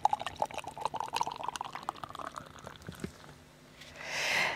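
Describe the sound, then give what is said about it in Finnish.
Factory Brewing Distant Closeness India Pale Ale pours into a glass in a steady, bubbly gurgle that rises in pitch as the glass fills, followed by a brief fizzing hiss of foam at the end. No one speaks. “Kyllä kaunein jingle on tää lorotus.”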